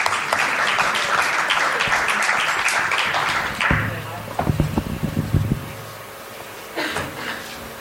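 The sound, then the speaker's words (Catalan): A crowd in El Prat applauds loudly after a poem by a local poet is read, with dense, steady clapping for several seconds, then it cuts off and gives way to a few scattered knocks and faint background voices. “Sí, home, i tant, un aplaudiment. Gràcies, home, gràcies.”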